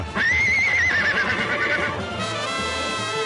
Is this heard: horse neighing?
yes